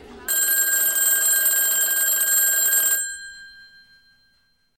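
A telephone bell rings loudly and continuously for about three seconds with a bright, metallic jangle, then stops abruptly and its ring fades out into silence, as a Stasi agent's call finally gets through after several days.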